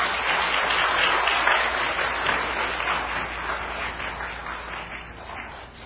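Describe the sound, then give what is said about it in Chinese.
Steady applause at a church gathering welcoming a speaker, a dense wash of many hands clapping that holds fairly loud for about six seconds and slowly tapers off toward the end, with no one speaking. “我哋好唔好俾掌声欢迎？”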